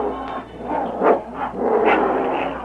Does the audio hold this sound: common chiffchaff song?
no